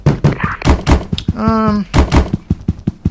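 A kitchen door in a video game swings open with a drawn-out tonal creak in the middle, surrounded by a steady run of heavy thumping steps before and after.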